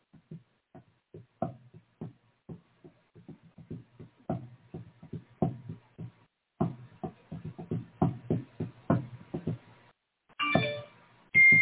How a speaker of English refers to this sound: Got a notification there and everything.